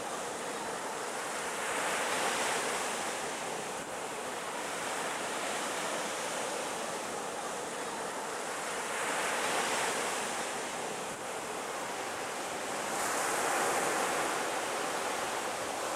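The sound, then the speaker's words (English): Steady surf rolls in and washes up the shore, swelling louder in slow waves every several seconds over a constant hiss of water, with no voices present. “After half an hour, they come out of the sea and rest.”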